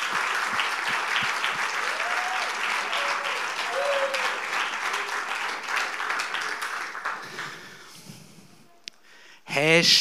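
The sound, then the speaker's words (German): Sustained crowd applause for children after their songs and a short play, a dense steady patter of many hands clapping for several seconds, with faint voices and a few cheers mixed in before it fades and a louder burst of noise ends it. “Ich glaube, das ist nochmal ein Applaus für die Kinder wert.”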